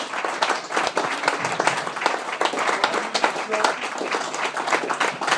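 A crowd applauds steadily for several seconds for the staff and chefs at a Spice Rouge fundraising event for the Guide Dogs for the Blind Association, a dense wash of many hands clapping at once, loud and sustained without pause, with faint voices mixed into the noise.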